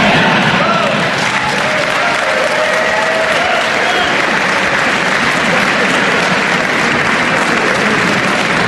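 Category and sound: crowd, audience applause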